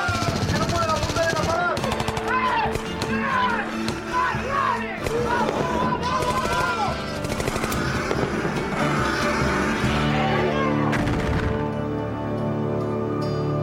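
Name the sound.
gunfire sound effect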